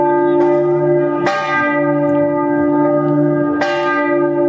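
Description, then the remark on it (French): Church bells ring loudly, with a few heavy strikes whose deep, humming tones overlap and sustain between blows. No one speaks. “Et lui, crédule, il la croit, il croit entendre lui-même ses cloche qui lui tourne la tête.”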